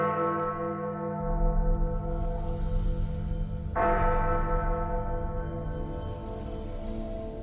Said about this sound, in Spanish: cada viernes 13, en el interior de la mansión, se tocan 13 veces las campanas que allí se conservan. Y se tocan exactamente a las 13 horas.